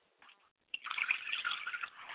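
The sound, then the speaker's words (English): A few faint drips, then a libation liquid being poured steadily to the west and splashing onto a surface, a continuous trickling stream lasting about a second and a half with no voices. “I pour libations to the west, and I say Ashe.”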